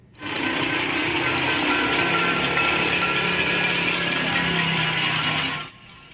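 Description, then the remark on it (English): A dense, continuous metallic clatter of many pots and pans being banged at once by demonstrators in Venezuela's capital protesting Nicolas Maduro's declared re-election, blending into a steady roar of clanging that holds at an even level for about five seconds, then stops. “At the country's capital, demonstrators banged pots and pans for more than an hour.”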